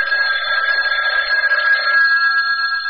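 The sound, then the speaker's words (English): A loud, continuous ringing telephone bell in a Sears Radio Theater drama, with a bright, buzzy metallic tone like an old telephone ringer, sounding steadily for about three seconds with no voices. “I was catching winks one afternoon when the phone”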